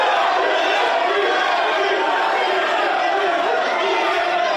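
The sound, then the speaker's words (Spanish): A dense crowd at San Sebastián (Donosti) airport shouts and cheers continuously as Paris Saint-Germain and Kylian Mbappé arrive, many voices overlapping in a loud, steady roar of excited calls with no pauses. “¿Quieren escuchar ustedes el ambiente que había hoy cuando llegaba el Paris Saint-Germain, cuando Mbappé pisaba el aeropuerto de Donosti?”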